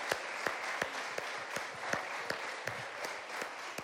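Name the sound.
audience applause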